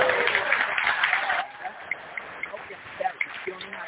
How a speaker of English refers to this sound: Give them the loud clap. Just give them the one where they just going crazy.